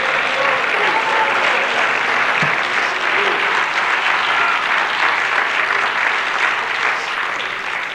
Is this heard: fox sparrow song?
no